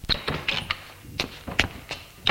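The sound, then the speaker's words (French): An apartment door is opened: several sharp clunks and clicks from the handle and latch come in an uneven sequence, with a final knock as it swings. No one speaks. “Il ouvre la porte de l'appartement.”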